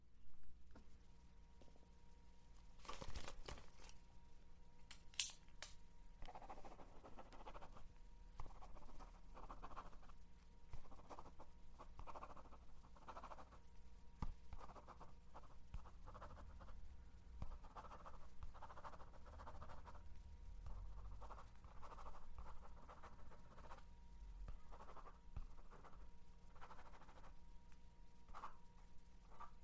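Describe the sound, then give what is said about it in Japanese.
A brief crinkle of paper is followed by a long run of quick, scratchy pen strokes on paper as someone fills in a short questionnaire on the sheet, fairly quiet, over a steady low hum with no talking. “この紙に、したくないことと、ちょっとしたアンケート、答えてくれる？”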